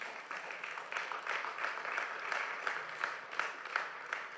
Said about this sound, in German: Gib doch mal Friedemann einen kräftigen Applaus.